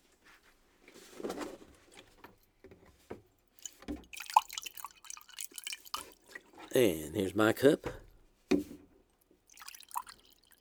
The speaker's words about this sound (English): we will now pour water in the cups.